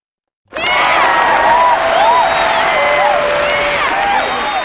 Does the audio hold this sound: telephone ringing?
no